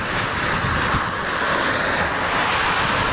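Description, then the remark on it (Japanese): Fast-flowing snowmelt water rushes steadily and loudly throughout, a dense, unbroken roar, with no voices or pauses over the whole few seconds. “雪解け水も勢いよく流れているハリウスでございます。”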